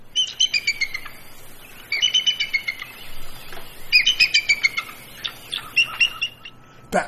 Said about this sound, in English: That's the bald eagle. Who knew? Yeah, on the money, right? I didn't even know that it chirped.